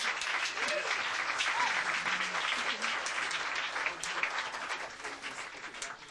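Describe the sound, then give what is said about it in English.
Sustained audience applause as performers on stage are introduced fills the whole stretch, a dense wash of many hands clapping at steady volume, with a few faint voices mixed in before it tapers slightly near the end. “And the mystery person, the meter applause, tooth check.”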